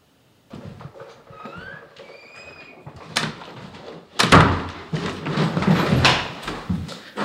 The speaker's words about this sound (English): I just shut the door to my apartment. And, well, it's not my apartment anymore. And I'm leaving it behind.